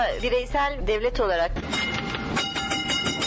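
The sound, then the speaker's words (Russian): An old tram rolls along its rails on Istiklal Street, a pedestrian street: a shrill, wavering metallic squeal at first, then a steady rattling clatter of wheels over the track. “Тарахтит по рельсам старый трамвай, не помнящий своего года рождения.”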